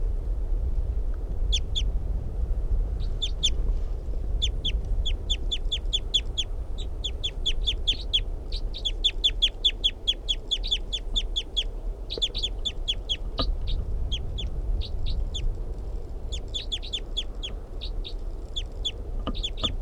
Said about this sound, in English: June 24th, continuing, wild bird.